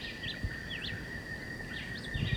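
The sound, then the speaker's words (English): Birds singing together, a John Chewitt and a woodpecker: faint, repeated short whistled notes that sweep up and down, over a steady high-pitched hum and a few low soft thumps. The John Chewitt is about 30 meters away. “So there's both John Chewitt and the woodpecker singing.”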